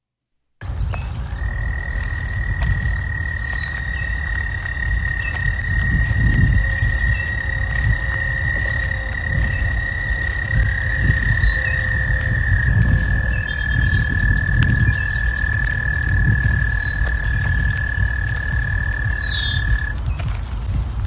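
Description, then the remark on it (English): An American toad gives a long, steady, high musical trill lasting many seconds, joined briefly by a second overlapping trill, over low rumbling background noise and scattered faint chirps. “Here is the American toad.”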